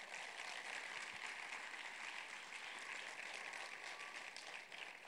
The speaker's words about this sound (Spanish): Aplausos al Señor esta mañana.